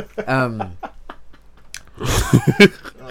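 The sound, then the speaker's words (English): A voice imitates a man chewing gum loudly: a drawn-out vocal sound, then a burst of wet, smacking chews and clicks, fairly loud. “Man's chewing gum like...”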